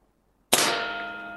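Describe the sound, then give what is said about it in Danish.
After a moment of silence, an air rifle pellet, shot from one end of a room, strikes a metal target set on a picture of Putin with one sharp, bright clang, hitting just under Putin's left eye and leaving a high ringing tone that slowly fades. No voices. “Og så kan man stå hernede i den ene ende af lokalet med et luftgevær, og så kan man skyde på Putin.”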